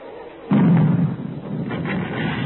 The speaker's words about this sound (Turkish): Neler oluyor? Hani ateşkes yapmıştık? Bu top sesleri de ne? Ya imam, Ruslar taarruza geçti.